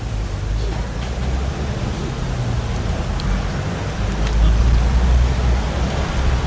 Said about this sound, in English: Traffic hardly obtrusive on the Brighton Road. It's been passing throughout the ceremony.